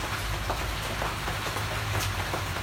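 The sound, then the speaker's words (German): Rain patters steadily on a tarpaulin, a dense hiss broken by irregular sharper taps, with a low steady rumble underneath and no voices. “Es regnet und auf der Plane prasselt es.”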